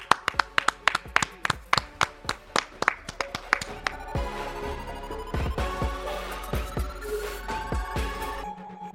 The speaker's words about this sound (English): Peace out, everybody. Clap it up.